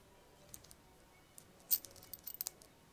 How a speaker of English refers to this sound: Just undo the belt.